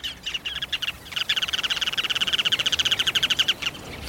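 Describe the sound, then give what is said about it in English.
Sandpipers along the shore give rapid, high-pitched trilling calls in quick repeated bursts, building into a steady chattering series, clear, with no voices present. “What birds are those along the shore? Sandpipers, yes, but which ones?”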